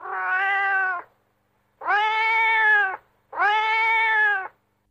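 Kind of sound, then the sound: animal, cat meowing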